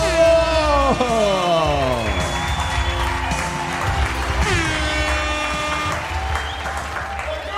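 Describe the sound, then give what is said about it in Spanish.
A crowd applauding loudly and continuously, mixed with cheers, whoops and yells rising over the steady clapping throughout. “Fuerte aplauso”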